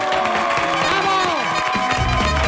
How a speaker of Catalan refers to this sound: I al carrer! I al carrer! Que arriba en públic! Un aplaudiment per l'Asturgó! Bravo!